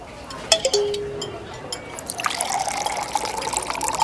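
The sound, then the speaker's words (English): A brief glassy clink, then water pours steadily into a glass for a couple of seconds, the splashing tone rising slightly as it fills. Fairly quiet. “Here is some water.”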